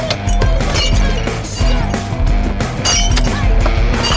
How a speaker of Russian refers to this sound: Бутылка разлетается в руке. Вон они! Трое подростков с крыши сарая бьют из рогаток по бутылкам.